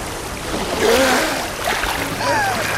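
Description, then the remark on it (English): A fox dives into a river after a sinking mole, followed by a couple of seconds of churning, sloshing water, with faint high tonal sounds drifting over the noise. “On the other side of the river, the fox steps into the water, then dives down after the sinking mole.”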